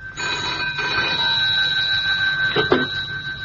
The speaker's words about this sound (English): I couldn't sleep, and so answered at once when the phone rang by my bedside.